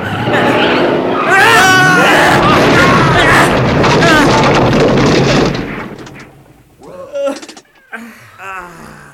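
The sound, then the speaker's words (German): A vehicle brakes and skids with shrieking, wavering tire squeals, then crashes into a rock face at a landslide on a hillside with a long, loud roar lasting several seconds; it cuts off and a few voices speak in the quieter aftermath. “Du fährst gegen die Felswand!”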